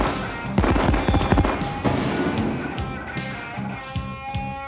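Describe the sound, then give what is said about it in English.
A rapid series of sharp, loud bangs and crackles of a firework rocket bursting high in the air, one burst after another, with a few bigger booms standing out. “First rocket bursts high in the air, spelling out a warning that no one under 18 should look at the next rocket, which explodes into a close-up of throbbing genitalia.”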